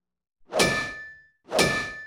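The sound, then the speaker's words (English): A hammer strikes metal twice, about a second apart, each hit a sharp clang with a bright ringing tone that fades quickly. No voices are heard. “Hammers go cling clang.”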